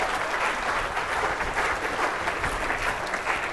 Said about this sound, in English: Give him a round of applause as he comes up.